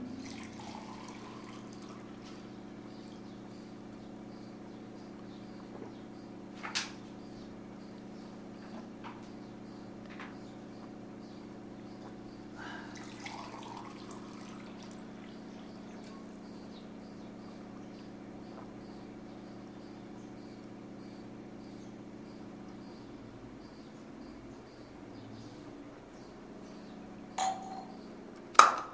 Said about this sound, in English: So this, I'm gonna drink some water.